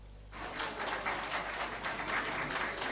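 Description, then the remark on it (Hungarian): Steady applause in a press room greets the German chancellor and French president holding a joint briefing after a European Union leaders' summit; it breaks out after a brief quiet moment, a dense patter of many hands clapping at an even level with no voices standing out. “A sajtóteremben taps fogadta a csúcs után közös tájékoztatót tartó német kancellárt és francia elnököt.”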